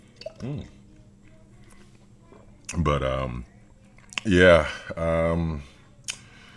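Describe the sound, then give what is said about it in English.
A few wet gulping and swallowing sounds of someone drinking water, followed by two drawn-out voiced exhales like a satisfied "ahh" after a drink, with short clicks and pauses between them. “I'm about to go in for some water again.”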